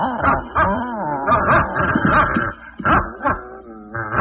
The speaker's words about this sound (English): get that dog off of me, boy. Down, boy. You must smell that bacon.